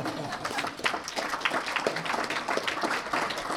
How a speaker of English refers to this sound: I'm pleased and honored to announce that 2018 is our 35th anniversary for hosting community luncheon forums to address topics of international interest. Applause is okay. 35 years.